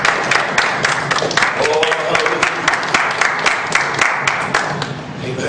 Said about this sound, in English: Let's give you a good hand clap of praise.